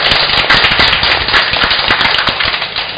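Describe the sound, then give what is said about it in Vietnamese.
A parish audience breaks into loud, sustained applause for the Lê Rô Maria choir, a dense crackle of many hands clapping at once with no voices standing out. “Chúng ta chúc mừng ca đoàn Lê Rô Maria và chào vỗ tay.”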